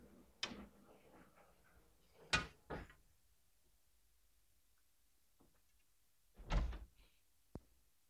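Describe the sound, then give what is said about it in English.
A door is handled and pushed shut: a few soft knocks and bumps, then a fuller closing thud followed by a sharp latch click, fairly quiet against otherwise stillness. “Actually, let me close that door while you guys are working on that.”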